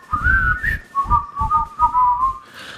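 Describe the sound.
Someone whistles a short, bouncy melody hook, the clear tones gliding between a few pitches in quick phrases, fairly loud, with no talking.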